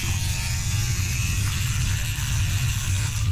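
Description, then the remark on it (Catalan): An electric toothbrush buzzes steadily and loudly for the whole stretch, a constant low motor drone with a gritty, rattling edge and no pauses or voices. “Ah, és un raspall de dents.”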